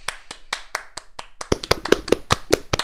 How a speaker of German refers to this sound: Applaus!